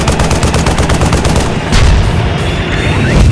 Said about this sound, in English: They're firing goddamn tank shells.